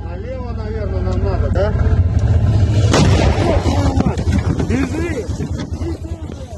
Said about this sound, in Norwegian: Dette er en kinesisk terrengbil som Putin kjøpte mye av, og den gir altså ingen som helst beskyttelse. Og i denne videoen så ender det med at denne terrengbilen, golfbilen, blir truffet av en ukrainsk drone og eksploderer.